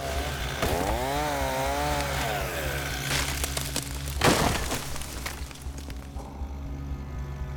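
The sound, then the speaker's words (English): Volunteer firefighter Ray Johnson's chainsaw runs steadily with a low droning hum, its pitch rising and falling as it revs and bites into wood, cutting down a dead, blackened tree in the yard of a burnt-out home, with a sharp cracking burst midway and rough grinding after. “At another burnt-out home, volunteer firefighter Ray Johnson starts his chainsaw, chopping down a dead, blackened tree in the yard.”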